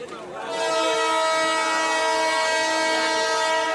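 A loud, steady train whistle swells in within half a second and holds one long, unbroken blast, rich in harmonics, at 6 a.m. in Moatize, telling the waiting passengers that they may now board the train.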